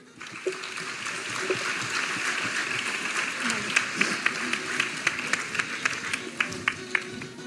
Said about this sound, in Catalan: Ja podeu pujar a l'escenari. Un fort aplaudiment.